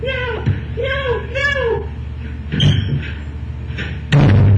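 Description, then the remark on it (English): A door of a house is broken down with two heavy impacts, the second a loud splintering crash near the end, after a stretch of strained vocal sounds. “Broke the door down.”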